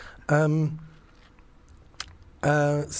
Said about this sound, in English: I'm trying to, but you keep interrupting with typing.